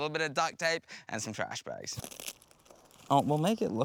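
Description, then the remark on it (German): A second or so of crinkling plastic bags and ripping tape as people make improvised rubber boots from plastic bags and tape for crossing a swamp, between stretches of people talking; the rustle is quieter than the voices around it. “Der Sumpf ist ein Problem, aber wir basteln uns einfach Gummistiefel aus Plastiktüten und Klebeband.”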